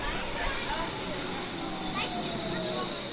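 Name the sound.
subway train ride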